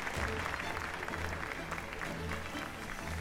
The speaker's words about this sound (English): Very good. A round of applause for the both of them.